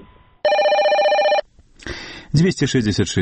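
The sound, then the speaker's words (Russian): A single loud, sustained ring of an answering-machine telephone line in Minsk that is on around the clock, lasting about a second, bright and buzzy with a steady tone, followed by a brief pause and then a person starting to talk. “наш телефон аутоотказник у Менску, включены круглые сутки.”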